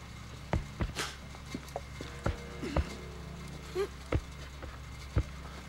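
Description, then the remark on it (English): Heavy, irregular thuds of footsteps land one after another with uneven spacing, muffled and low, from someone walking above, over a faint steady background hum. “He's alarmed by footsteps above him.”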